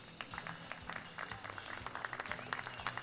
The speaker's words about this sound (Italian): Grazie mille per il vostro caloroso e spontaneo applauso. Come ogni anno, ormai siamo alla sesta edizione, sono lieto di darvi il benvenuto all'Acquaviva Rock Night.